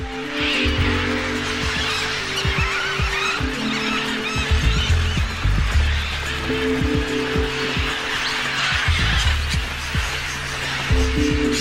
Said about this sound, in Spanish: En el suelo, los loros son más vulnerables a los depredadores. Aunque un solo loro perciba el peligro, lanza instantáneamente una señal de alarma.